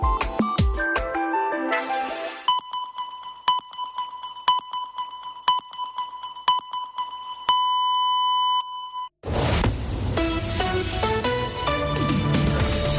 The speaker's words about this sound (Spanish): Estàs informat. Senyals horàries de 2:15 del migdia. Benvinguts a la vostra COPE més propera, COPE Catalunya i Andorra.